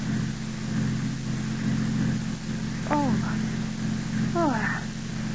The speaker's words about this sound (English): 5 minutes later, Paul has hurriedly turned the car around and drives back up the road to the turnoff marked Dr. James Harris.